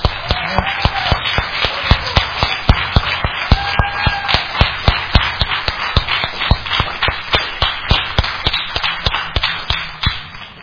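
A church audience in Wakulla County gives grateful applause for first responders, clapping steadily for about ten seconds, a dense wash of hand claps with sharper, louder claps standing out at a fairly even rhythm, and faint voices mixed in.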